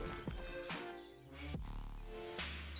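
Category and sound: bird, hermit thrush flute-like song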